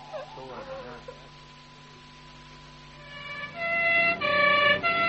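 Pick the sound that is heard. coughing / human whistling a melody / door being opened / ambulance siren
ambulance siren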